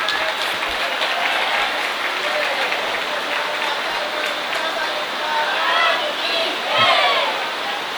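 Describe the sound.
Heavy rain pours down on a plastic roof over a religious discourse in a dense, steady roar that stays loud for the whole stretch, with a faint voice briefly rising beneath it near the end.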